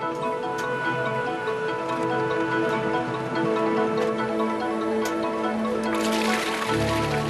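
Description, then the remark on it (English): Hot liquid paraffin wax mixed with red pigment for making crayons pours into a bucket in a sudden, dense gush near the end, set against a steady mechanical hum and faint regular ticking of factory machinery. “The hot mix is poured into a bucket”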